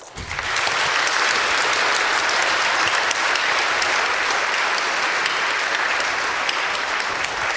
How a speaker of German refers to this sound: Danke, dass ihr die Veranstaltung hier auf die Beine gestellt habt. Dafür vielleicht auch mal einen Applaus.